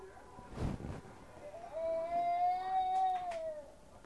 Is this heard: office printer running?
no